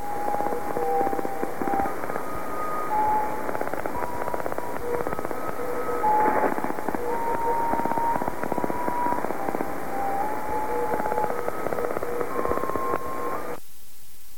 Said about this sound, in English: Sorry, there's a lot of interference to it. This was not a strong signal. But if you listen carefully, you hear there are 10 musical tones. Uh-huh. Each one is about 1 second long.